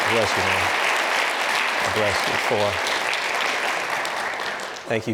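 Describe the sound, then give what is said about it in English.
Steady, dense audience applause fills the whole stretch, a loud wash of clapping that tapers near the end, with a man speaking briefly over it a few times. “Can you put your hands together for … for prayer?”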